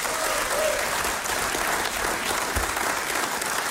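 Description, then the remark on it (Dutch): A crowd applauds steadily, dense clapping at a strong, even level for several seconds, with faint voices mixed into the noise, welcoming a singer seated at a grand piano. “Mag ik een groot applaus?”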